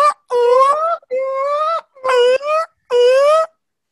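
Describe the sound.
A person imitates bird calls with four loud, drawn-out hoots, each a sustained mid-pitched tone that wavers slightly, separated by short pauses, with no other talking.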